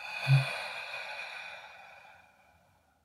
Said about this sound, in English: With a soft belly, breathing in and breathing out.